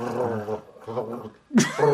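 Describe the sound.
A person imitates a cat's purr with their voice: two low, rumbling voiced stretches, a brief pause, then a sharper, louder throaty burst that trails into a steady hum.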